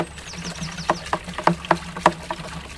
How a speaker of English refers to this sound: Milburn mixes up a batch of disinfectant in a green watering can and pours it over my shoes.